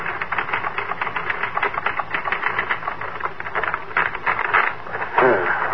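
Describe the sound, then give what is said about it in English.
Typewriter keys clatter in a fast, steady stream of sharp mechanical taps for several seconds, with a slightly louder, busier burst of strikes near the end. “You finish the book, get out of bed hurriedly, and sit down at your typewriter.”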